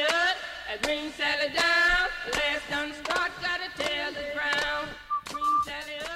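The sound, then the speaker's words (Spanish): Someone whistles a bright, bouncy tune on BOM Radio, the melody running in short phrases over a rhythmic musical backing with sharp percussive hits, steady and fairly loud throughout. “¿Eras tú la que silbabas?”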